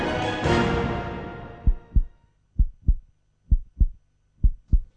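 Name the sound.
heartbeat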